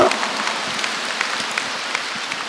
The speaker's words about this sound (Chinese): 看见吗？鼓掌。